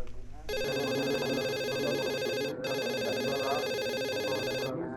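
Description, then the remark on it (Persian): A telephone rings loudly and steadily in two long bursts with a brief break between them, its bright electronic tone filling the space over faint background murmur. “اجازه بده که من تلفن جواب بدم.”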